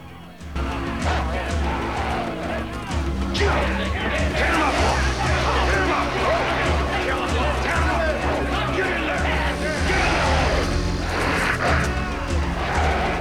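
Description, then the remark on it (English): A dense, frenzied crowd of betting men roars and shouts nonstop at a dog fight as White Fang pins a German Shepherd to the ground, many voices overlapping into a loud, agitated uproar that stays intense from start to finish, with sharp bursts of yelling rising above the din. “The crowd reaches a frenzy as White Fang pins the German Shepherd to the ground and kills it.”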